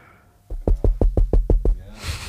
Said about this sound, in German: Ich dachte, das klopft gerade.